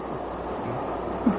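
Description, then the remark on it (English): A steady, continuous rushing roar of a train moving at speed along the rails through the night, past Hawley toward Red Hill, heard from inside, with a low rumble and a brief bump near the end. No voices. “Have you considered the speed at which our train is rushing through the night?”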